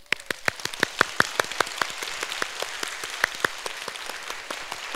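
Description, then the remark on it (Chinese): A church audience in an auditorium breaks into sustained applause for married couples standing up, a dense wash of clapping with sharp individual claps popping out above it at an uneven rhythm, moderately loud and steady throughout, with no one speaking. “已婚的弟兄姊妹，如果现在你和你配偶都在一起，在教会，在这个礼堂，我也邀请你现在站立起来，接受我们热烈的欢呼和掌声。”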